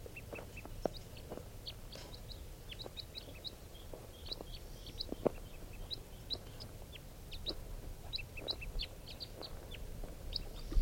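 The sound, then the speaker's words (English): Many short, high chirping calls from a flock of birds hanging around a net where a male has just been caught, overlapping from several birds at once, over a steady low rumble and occasional soft thumps. “One of them and just got the male in the net, and he'll be bird number 436, and the rest of the flock is hanging around here.”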